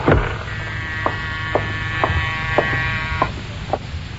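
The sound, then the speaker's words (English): An apartment doorbell rings in the early evening, a buzzing long steady tone, overlaid by several short sharp clicks or taps at a regular pace, over a low rumbling background, with no one speaking. “Early that evening, you're sitting at your desk examining the diamonds when the doorbell rings.”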